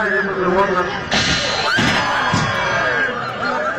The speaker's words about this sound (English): You hear the reaction from the crowd because he launches and almost comes out of his seat. He lands on the front wheels of the soapbox derby racer.